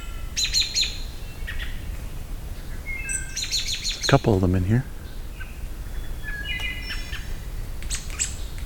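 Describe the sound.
Several American robins trade sharp, agitated chirps and squeaky calls in quick bursts in a territorial dispute, while a man speaks briefly over them.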